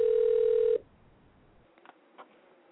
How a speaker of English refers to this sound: Yeah. Get the preliminaries. Just pick up the phone already.